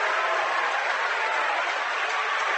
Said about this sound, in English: crowd going berserk.